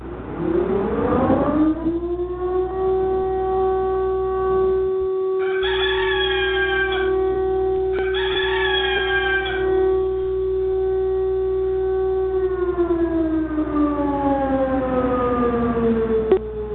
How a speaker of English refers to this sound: My buddy the rooster. There you go.